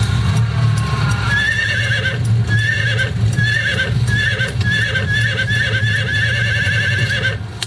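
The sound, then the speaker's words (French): Horses whinny in a string of repeated high, wavering neighs over a steady low rumble, with hooves clip-clopping alongside, loud throughout, as the horses are being brought out. “Bon, il n'y a plus qu'à sortir les chevaux et on y va.”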